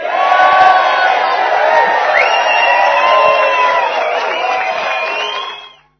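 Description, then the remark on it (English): A crowd cheers loudly and steadily for about five seconds, a dense wash of many overlapping voices with whoops and shouts, before fading out quickly at the end. “And but we do have, as you saw, that wild and crazy crowd.”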